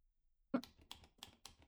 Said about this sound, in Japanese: なんかあれ動いてる？何？タイプライター？文字打ってるね。